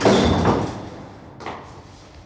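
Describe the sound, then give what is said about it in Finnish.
A heavy door in a building in central Helsinki is pushed open with a broad, rumbling swish that fades out, followed about a second later by a softer second bump as it settles. “Ovi on kauhean kuulunut, mutta tuossa noin työnnä shoot.”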